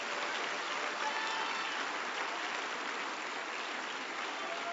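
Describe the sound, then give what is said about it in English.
Steady, dense applause from a crowd of many hands clapping at once, a sustained wash of sound at even loudness for several seconds with no voices standing out, as people stand and clap unto the Lord. “Yeah, clap unto the Lord.”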